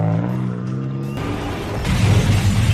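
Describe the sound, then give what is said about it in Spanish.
A car engine hums with a steady tone as people drive blindfolded while filming themselves, then an abrupt crash bursts in as the car hits a wall lined with rubbish containers, followed by loud, rough clattering and scraping noise that swells toward the end. “Eso es un coche, se estaban grabando con los ojos tapados y se estampan al final contra una pared que está llena de contenedores.”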